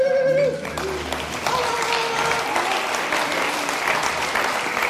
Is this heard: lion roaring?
no